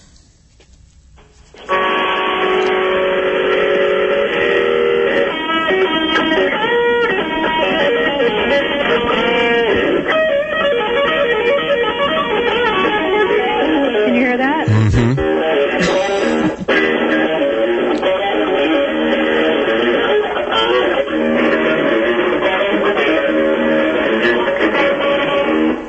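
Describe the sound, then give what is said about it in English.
Electric guitar played through an amplifier, heard over a phone line with the phone held up to the amp: after a short quiet start, loud, distorted, sustained notes and chords ring out continuously, sounding tinny and thin, with no talking. “She's going to hold the phone to the amp.”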